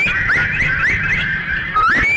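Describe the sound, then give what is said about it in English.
A crowd of people whistles together, a loud, sustained shrill tone with occasional upward swoops, many slightly different pitches blending into one wavering chorus with no talking. “Come on, everybody, help me whistle.”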